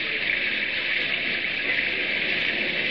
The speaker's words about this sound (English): Did you ever see such rain? The river will likely be flooded.